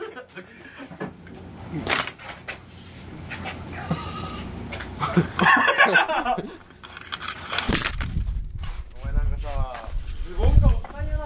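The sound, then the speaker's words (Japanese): A goat bleats several times, wavering cries coming in bursts around the middle and again near the end, loud over a rustling, noisy background. “おい、ヤギ、おい、ヤギ、なんか喋ろや、なんか喋ろや。ナイス、ヤギ、いい音や。”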